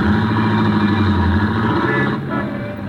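Steady rumble of car engines in dense traffic jams on Broadway and across 42nd Street, a loud continuous drone with idling and revving motors, no voices.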